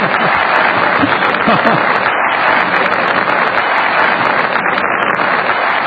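Sustained applause from a crowd, a dense steady wash of clapping that stays loud and even throughout, with no pauses or swells.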